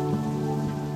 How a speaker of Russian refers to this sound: Смолкает дождь.